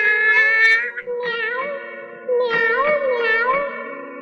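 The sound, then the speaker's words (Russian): A voice imitates a cat, producing a run of drawn-out, wavering meows with rising and falling pitch, fairly loud, with no talking around them. “Собака ты или кошка, а помяукать я не попробуй.”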